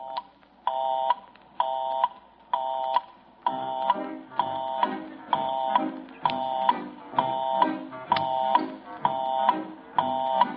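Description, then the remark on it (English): A telephone busy signal pulses steadily, about a dozen evenly spaced buzzy tone bursts roughly once a second, with a low murmur of background sound rising beneath them partway through. “If you should call any one of those busy lines right now, this is what you would hear.”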